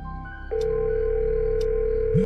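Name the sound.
telephone dial tone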